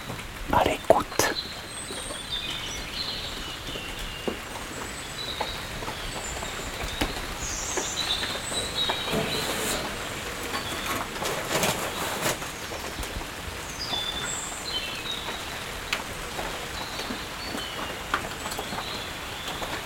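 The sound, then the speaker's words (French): Light rain patters steadily on roof tiles, a soft continuous hiss broken by scattered sharper drips and taps, even in level throughout. “Sous les tuiles. Une pluie fine.”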